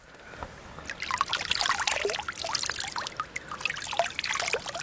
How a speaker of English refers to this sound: For a stream that is right beside a tillage operation, that really is very, very clear. It's very clear, and it's clear all throughout the year, from our part anyway.